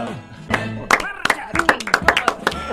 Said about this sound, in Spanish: Es un aplauso a nosotros mismos.